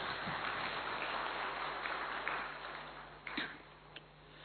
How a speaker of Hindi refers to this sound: सबको रक्षाबंधन की बहुत बहुत बधाइयां हो, बहुत ढेर सारी मुबारकें हो, ढेर सारी शुभकामनाएं। एक बार अच्छी तरह ताली बजा के स्वागत कर लें।